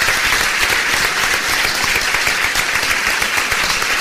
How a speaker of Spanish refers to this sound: Muchísimas gracias y este aplauso va por todos vosotros.